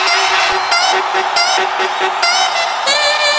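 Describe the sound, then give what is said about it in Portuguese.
A woman's short, high-pitched screams repeat in quick bursts, loud, over a steady droning tone, sounding like a looped vocal sample. “Agora eu quero ouvir o gritinho da louquinha.”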